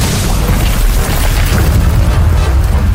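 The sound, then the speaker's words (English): A loud, thundering explosive boom as Gul'dan blasts apart the door at the entrance of the tomb of Sargeras, rolling on as a heavy, sustained low rumble with crackling debris noise throughout, and no voices. “Gul'dan blasted the door apart with a thundering boom.”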